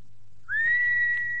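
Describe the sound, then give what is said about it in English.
A person whistles as a signal, given at night at Fox's Court, Gray's Inn Lane, before giving a password: a single sharp note that rises quickly and then holds steady at a high pitch, loud, over a faint low hum, with no talking. “Whistle twice and give password.”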